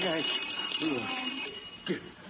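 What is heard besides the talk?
alarm clock ringing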